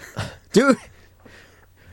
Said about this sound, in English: Stop coughing. You're not the Queen.